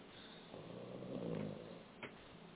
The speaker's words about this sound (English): Somebody snoring.